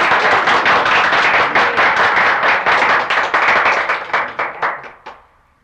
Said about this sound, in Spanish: Yo les pido a todos ustedes, hermanos, un aplauso bien alegre para felicitar a estos dos hermanos nuestros que ya están casados.